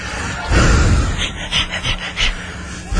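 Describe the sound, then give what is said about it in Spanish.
A person imitates a dog's heavy panting, a quick run of breathy huffs in a steady rhythm, fairly loud, with no talking. “Jadeas como perro,”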